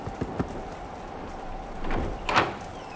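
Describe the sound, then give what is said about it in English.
Three quick, hollow knocks on the wooden door of a shack in the middle of nowhere, over a steady rain-like hiss, followed by a couple of louder rustling, creaking swells. “What, that shack? Yes. Weird. But it's the middle of nowhere. Oh, come on. We must have come to the wrong place. Knock on the door.”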